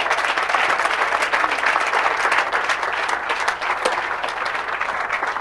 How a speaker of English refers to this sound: Somebody clap their hands again.